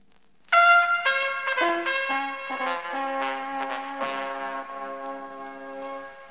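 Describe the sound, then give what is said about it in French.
Several car horns on the Champs-Élysées in Paris honk together in the evening, beating out the Gaullist supporters' 'tititi-tata' chant in a repeated pattern of short and longer blasts, loud and overlapping, with sustained tones sounding steadily for several seconds and no talking. “Les klaxons des automobiles sur les Champs-Élysées scandaient le tititi-tata des militants gaullistes”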